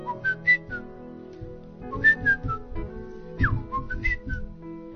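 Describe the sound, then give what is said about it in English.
Someone whistles a short bird-like melody, a series of bright chirping notes with quick upward and downward slides, pausing briefly between phrases, over a low background hum. “I know that they say birds sing, but I never knew that they do actually sing melodies, serious melodies. You know, a bird would do like.”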